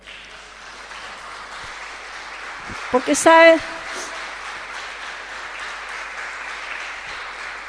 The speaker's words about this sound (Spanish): Denle un aplauso a Dios.